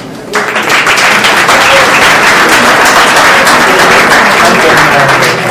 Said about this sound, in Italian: Bravo! Grazie, continuo. Applauso più forte.